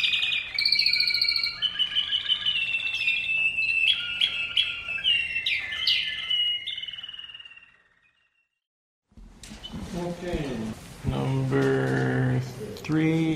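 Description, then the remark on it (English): A songbird sings a rich, varied song of rapid trills, whistles and chirps, loud, for several seconds; it cuts to silence, then people begin talking. “And you can just tell they really enjoy singing and creating a musical masterpiece. The Mozarts and Beethoven and Chopins of the bird world.”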